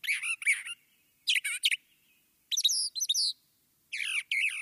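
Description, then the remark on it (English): A brown thrasher sings in short, rich phrases, each phrase given in pairs, with varied whistled and buzzy notes separated by brief pauses. The song is loud and clear with no talking. “Brown thrashers live year-round in the southeastern U.S. and breed in the Northeast, Midwest, and Great Plains.”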